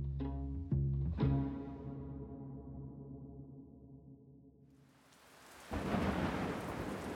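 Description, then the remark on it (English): Deep, droning thunder rumbles roll through the first seconds, then a dense hiss of heavy rain swells up and pours steadily and loudly to the end, with no voices: storms lashing Italy, near the outskirts of Rome. “Deluged by the storms that are lashing the country, they will reach their assembly points a bedraggled, starving rabble.”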